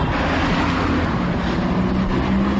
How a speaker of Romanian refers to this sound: Noua capitală europeană m-a întâlnit cu aceeași gara de nord, poate un pic fardată, și un trafic infernal la ora 7 dimineața.